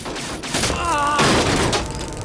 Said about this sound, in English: The hunter and Mohinder get out of the cab, but Mohinder holds on to the cab door. You're surrounded. He smacks the hunter with the door, then shields himself against bullet fire with it.